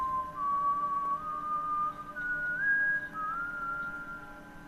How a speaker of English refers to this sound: Instead, he signaled to whatever was pulling the nooses by whistling again, and the five of them were lowered back to the ground.